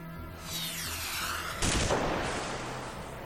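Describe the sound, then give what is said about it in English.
A descending whistle of an incoming missile is followed by a loud explosion and a sustained roar of blasts and debris, with no voices; a missile strike on the district of Fanjatan at night, about two hours past midnight. “It was about 2 hours past midnight when the sound of a missile broke the silence.”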